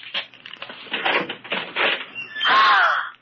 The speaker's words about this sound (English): Open that closet door.